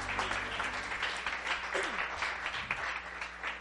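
A crowd applauds and cheers for the Lord, a dense wash of clapping with scattered cheers and whoops rising over it, sustained at an even, fairly loud level throughout with a low hum beneath.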